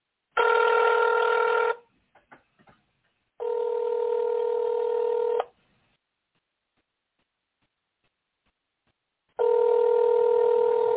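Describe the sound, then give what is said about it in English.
A phone ring-back tone from a call to a regular phone sounds in three long steady bursts, about one to two seconds each, with pauses between and a few faint clicks in the first gap. Nobody speaks. “If she don't answer this one, we're going to have to keep it.”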